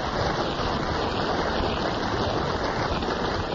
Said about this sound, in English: So that resounding round of applause, Maureen, shows that they appreciated your little dissertation on the theatre of the absurd.